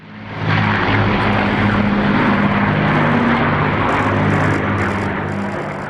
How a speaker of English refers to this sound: The 96-year-old monarch took a salute on the balcony as military planes flew overhead.